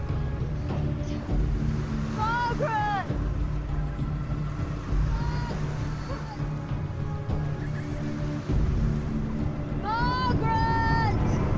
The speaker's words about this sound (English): The waves.